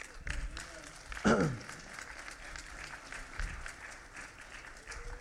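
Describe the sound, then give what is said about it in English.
A church audience claps steadily for several seconds, a dense, even wash of applause, with a brief raised voice calling out near the start. “I'm not doing that for anybody to clap for me.”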